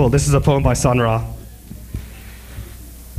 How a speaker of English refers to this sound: Wow, there is so much reverb.